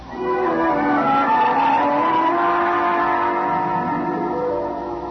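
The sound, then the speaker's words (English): A car pulls away hard with its tires squealing, a loud, sustained screech over the engine's roar that holds for several seconds before easing slightly at the end. No one speaks. “Go ahead. It's your car.”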